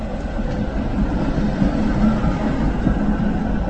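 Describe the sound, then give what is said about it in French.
A tram rolls past a few metres from a tram station in the Czech Republic, a steady, loud low rumble with a faint metallic rattle running unbroken for a few seconds, and no voices. “À quelques mètres de la station de tramway”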